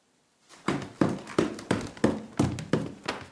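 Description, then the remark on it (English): A woman knocks hard on a door that was never locked, about eight loud thumps in a steady, insistent rhythm, with no voices. “She knocked loudly on Paul's door, which was never locked.”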